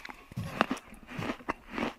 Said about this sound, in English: Ooh. How about that sound? The biting sound